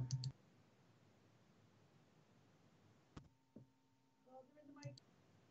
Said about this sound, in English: Sorry, there's only a knock at my door.